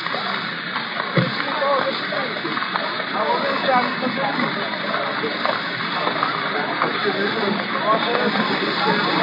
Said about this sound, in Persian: خب باران زیاد شد، من باید کوتاه بکنم یه مقداری، شعرها رو نخونم.